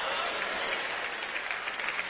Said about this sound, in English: Y'all stop clapping.